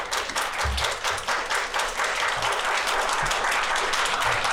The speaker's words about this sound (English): I'm not used to entertaining applause.